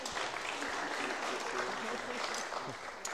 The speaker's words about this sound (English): Anyway, thank you. Can we please clap for them as they go back to their seat? Thank you.